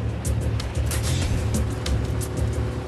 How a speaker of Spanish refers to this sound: Pero de repente, se acerca un coche.